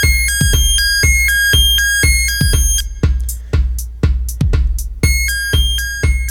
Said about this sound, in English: And it gates itself, but because of the decay, well, when we decay it, we'll get more notes, because the sequencer's running at eighth notes, going beep, beep, beep, beep, beep, beep, beep, boop.